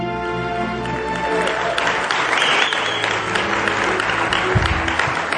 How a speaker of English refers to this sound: Thank you. I love you guys, you know. I haven't said anything, you're already clapping.